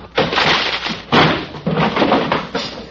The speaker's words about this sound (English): All right, men, all together now. Keep your guns drawn. We'll break the door down.